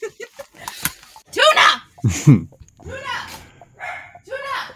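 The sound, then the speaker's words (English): The speaker's dog barks and yaps in a quick, irregular series of sharp, high-pitched bursts, loud, with short gaps between them. “And with that, can you hold on one second because my dog is barking.”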